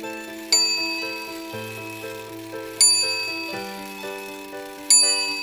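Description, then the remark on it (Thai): A clock chimes midnight: three bright, bell-like strikes about two seconds apart, each ringing out with shimmering overtones over a steady, sustained lower tone. No one speaks. “หนุ่มนักเต้นรำตัวนี้จะรอฟังเสียงนาฬิกาตีบอกเวลาเที่ยงคืน”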